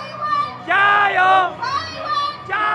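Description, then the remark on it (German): A large crowd at a political rally in Taiwan cheers and shouts in loud, overlapping bursts, applauding the president's speech, with high excited voices swelling, dipping briefly, then rising again. “Taiwan soll als Leuchtturm der Demokratie in Asien dastehen, was ihr hier viel Beifall einbringt.”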